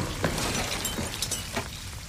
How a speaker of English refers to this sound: because right after they get out, that canister starts to give way. It shatters, the green goo goes everywhere, and the door slams shut.